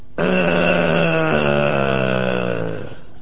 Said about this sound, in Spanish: Mire, aquí tenemos justamente a este perro que habla. Sultán, decile algo al señor Villarruel.